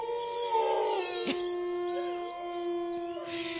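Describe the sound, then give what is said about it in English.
A wolf howls in long, sustained, wavering tones with a slight pitch glide, clear, with no one speaking, just the drawn-out cry filling the few seconds. “We've already seen January 10th, which is the wolf moon. That's why we played that really cool.”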